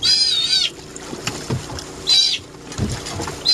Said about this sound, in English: Catching sea otters isn't necessarily easy, and when you do, they let their feelings be known.